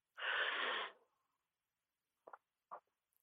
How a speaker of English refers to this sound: And I'd love for you to just take a couple deep breaths. So we'll take some deep breaths together.